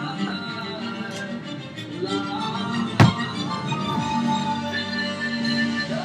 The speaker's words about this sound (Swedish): Det var ju ett skål. Ja, vi skålar då.